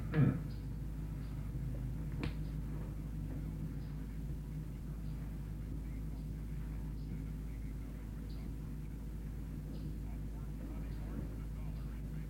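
A car engine rumbles steadily outside, a low, muffled drone that holds for the whole stretch, with a sharp knock at the start and another soon after.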